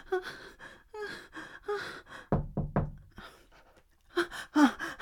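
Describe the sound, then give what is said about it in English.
Three sharp knocks on a door land in quick succession near the middle, surrounded by breathy gasps and panting from a voice without words. “Knock on my door.”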